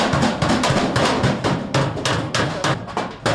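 A blacksmith's hammer pounds metal in a forge, with a steady run of loud, ringing strikes, roughly three or four per second, continuing without pause and with no voices.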